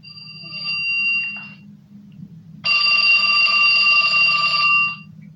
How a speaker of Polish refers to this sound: Nagle z zadumy wyrwał ją ostry dzwonek dużego, starego, czerwonego telefonu.